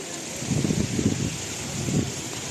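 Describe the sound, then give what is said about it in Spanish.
Heavy rain from storm Nelson pours down over the Iberian Peninsula during Holy Week in a steady, dense hiss that fills the whole clip, with a few low, muffled swells rising under the downpour. “La de la lluvia que dejó imágenes como la del Guadalquivir completamente desbordado hace justo una semana.”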